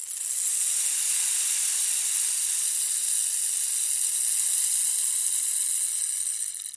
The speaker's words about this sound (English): We use the rain stick at the beginning of each recording to let you know we're about to start our exploration. It's a signal telling you it's time to pay close attention to what's happening on the inside of you.